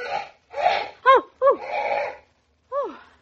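parrot squawking

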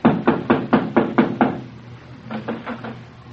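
knocking

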